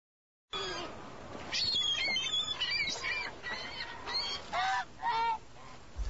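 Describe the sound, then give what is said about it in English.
A flock of Canada geese and ducks calls loudly, many harsh, overlapping honks tumbling over one another in a steady noisy chorus, with no one speaking. “The big ones are Canadian geese. They're the biggest geese. They chase the others.”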